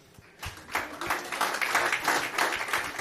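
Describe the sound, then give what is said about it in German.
An audience at the Loaded event breaks into extra applause for a man waving at the back, a dense crackle of many hands clapping that swells quickly after a quiet start and holds steady at a moderate level. “Da kann man nochmal einen extra Applaus da lassen, weil er die letzten zwei Jahre beim Loaded nie da war.”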